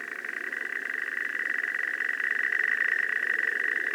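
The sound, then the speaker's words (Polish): A slowed-down Savi's warbler song: a steady, continuous low buzzing trill that drones on unbroken, growing slightly louder toward the end, with no voices present. “Posłuchajmy tej brzęczki na przykład w zwolnionym tempie.”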